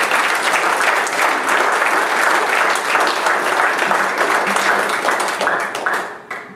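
An audience applauds in a steady, dense wash of clapping that holds strong for about six seconds, then thins and tapers off at the end.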